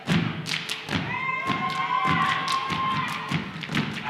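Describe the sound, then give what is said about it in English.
On a stage, an all-male performance group wearing gold armor on blue tunics jump and slap their feet down in a steady rhythm, about two heavy thuds per second, each a sharp, full-bodied impact, over a continuous background of crowd noise with a faint sustained tone. “Wearing gold armor on blue tunics, the boys jump and slap their feet.”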